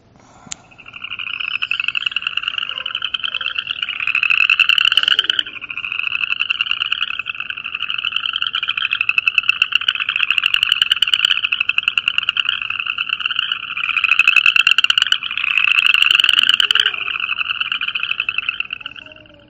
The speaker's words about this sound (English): And it's called upland chorus frog. And I hear these at lots of places. I hear it.